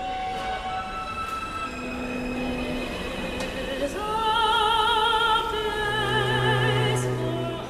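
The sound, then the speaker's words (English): An MTA subway train's motor sings a stepped electronic melody as it shifts to a higher gear while accelerating, clear tones jumping to higher pitches over a steady rumble of rolling wheels, fairly loud. “And then the train shifts to a higher gear as it accelerates, and then this is the sound that comes out.”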